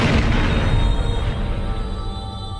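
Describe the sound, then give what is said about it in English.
A fuel depot, shot at, explodes with a big roar, deep booming rumble and crackling debris, the blast loud at first and slowly fading into a heavy low-pitched roar, with no voices. “Shoots at the fuel depot's big explosion.”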